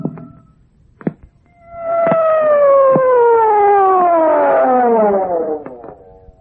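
siren wailing

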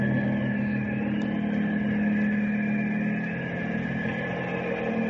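helicopter flying overhead

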